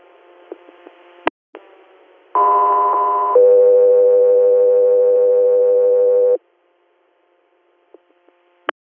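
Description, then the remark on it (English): A radio dispatch alert: a loud steady electronic tone lasts about a second, then shifts straight into a second, longer tone of about three seconds, framed by faint radio clicks and hiss. “Echo 3 Year, standby for tone.”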